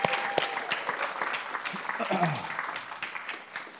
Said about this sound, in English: Can we do something real quick? Can we just give a clap to Jesus this morning for everything he's doing in this place today?